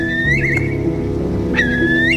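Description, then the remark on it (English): A curlew on the Cumara Bog calls twice, each a clear, rising whistle that bends upward and trails off, sounding over a steady, low humming drone that continues throughout. “As I walked and walked and walked, I heard the curlew.”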